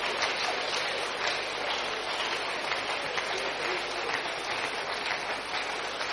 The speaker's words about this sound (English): Keep clapping as they go. Keep clapping as they go.